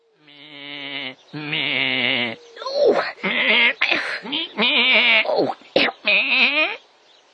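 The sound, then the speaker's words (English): A goat bleats over and over in a string of loud, quavering cries, each wavering bleat breaking off briefly before the next, with no talking in between. “"Take in your goat," said the wise old man.”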